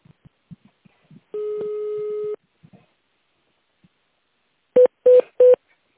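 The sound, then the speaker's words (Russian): On a phone call to the Batyanya building centre, soft clicks and taps give way to a single long, steady electronic beep. After a short pause, three quick, loud touch-tone beeps ring out in even succession as an extension number is dialed. No one speaks. “Если вы знаете внутренний номер сотрудника, наберите его в тональном режиме или дождитесь ответа.”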